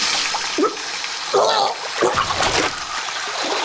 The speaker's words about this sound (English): turned on the cold water tap, and put her hands into it.